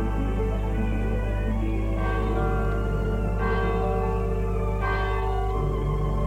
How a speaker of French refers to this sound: Fait un jour gris et humide. Les cloches de l'église sonnent et donnent un peu de beauté à ce décor lugubre.